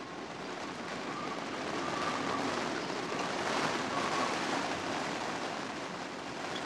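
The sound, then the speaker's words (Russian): A steady, dense roar of a storm at sea, with wind howling in a chimney and large wind-driven spray knocking on a small window, swelling slightly in the middle, with no voices present. “Буря на море не стихала, ветер так и завывал в трубе, и крупные брызги стучали в оконце.”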